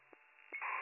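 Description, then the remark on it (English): Two short dialing tones of a call being placed to the Hickory Hill Motel sound over a hissy, narrow telephone-line noise, which swells louder toward the end; brief and fairly quiet, with no voices. “put that call to Hickory Hill.”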